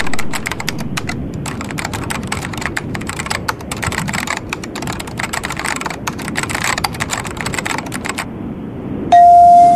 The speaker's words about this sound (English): Here, I'm going to type that in.